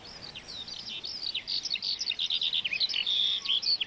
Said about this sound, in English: Take the skylark. Once its song was a familiar sound in this valley. Today, that's no longer the case, but it is still breeding just about.